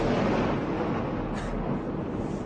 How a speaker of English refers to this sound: That was a rather large explosion. Yeah.